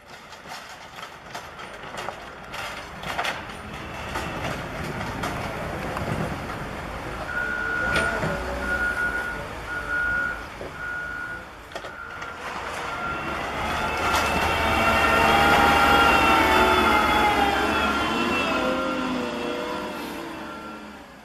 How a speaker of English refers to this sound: A street.